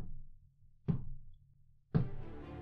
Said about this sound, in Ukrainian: І в ту мить пролунав таємничий і ледь чутний стук у парадні двері.